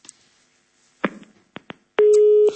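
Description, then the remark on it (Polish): A few sharp clicks on the Radio Maryja call-in phone line after a caller hung up, then a steady, fairly loud telephone busy tone sounds for about half a second at the end, with no voices. “No niestety ktoś chyba sprawdzał, czy my naprawdę telefon odbieramy na żywo.”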